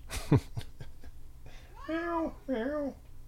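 animal, cat meowing

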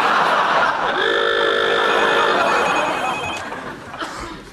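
signal or alarm, alarm bell ringing

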